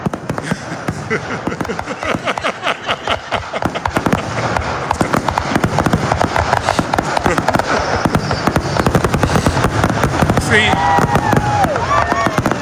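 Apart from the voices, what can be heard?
fireworks exploding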